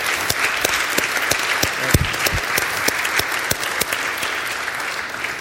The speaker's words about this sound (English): So thank you. It's a round of applause for our own hospital.